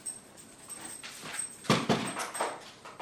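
Holly, a hearing dog, runs across a hard floor to fetch a phone. Her paws and claws patter in a quick run of soft steps that grow louder toward the end, with no one speaking.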